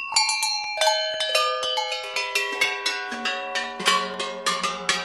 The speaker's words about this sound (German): Das hier ist jetzt ein gestimmtes Geläut, wie es die Kühe früher auf der Weide getragen haben. Fangen wir mal an mit der kleinsten Schelle.